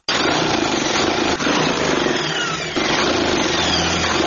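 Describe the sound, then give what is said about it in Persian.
A tailor's sewing machine in a tailoring shop in District 5 of Kabul runs steadily, its motor whirring in a dense mechanical drone with a couple of brief hitches as it stitches clothing for a customer, with no voices. “با ماشین خیاطیش در حال دوختن لباسیدی برای یکی از مشتریانش در شهر کابل است.”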